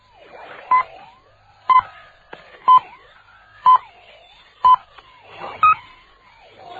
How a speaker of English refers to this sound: First, here is a Swiss chronometer to give you the exact time. At the last turn, it will be 7 o'clock, Greenwich Mean Time.